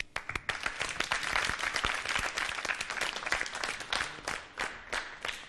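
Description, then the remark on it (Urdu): A crowd claps steadily for several seconds, dense overlapping handclaps forming sustained applause with a few sharp individual claps standing out, loud throughout, welcoming a Team B contestant in a team competition. “ان کے استقبال کے لیے بھی تالیاں ہونی چاہیے.”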